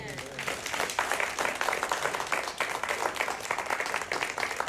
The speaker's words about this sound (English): And I think we should just give a little hand clap right there.